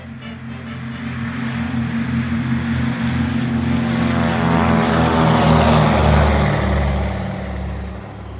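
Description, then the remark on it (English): A propeller aircraft engine drones steadily at the Shelbyville, Tennessee airport, its low harmonic hum and broad whooshing wash swelling slightly louder mid-way before easing off, with no voices present. “Come along and join me at the Shelbyville, Tennessee airport”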